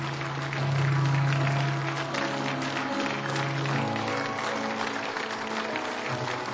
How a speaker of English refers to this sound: Those claps are just to encourage you. That's all that is. Saying, yes, you belong here.